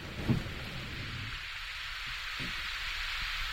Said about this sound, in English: Power of the river now. Run through those lines. What you can hear is the electricity that's being created by the four major hydropower dams.